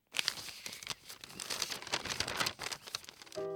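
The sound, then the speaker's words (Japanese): Continuous paper rustling and crinkling as a letter from Francis is opened and unfolded, with brief tearing-like crackles, ending as a soft musical tone begins. “フランシスの手紙。”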